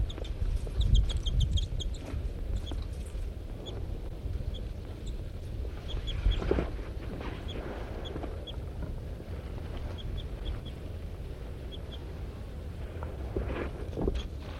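A pair of birds give repeated short, high-pitched chips and chitters in scattered bursts while harassing another bird, M4, over a steady low rumble of wind or engine noise. No one speaks.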